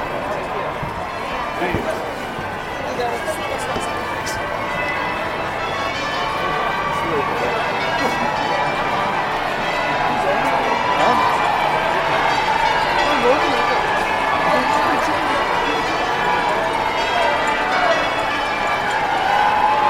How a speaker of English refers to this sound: Later that morning, when the roads were thronged with spectators, I could hear the sounds of the bells pealing across the city.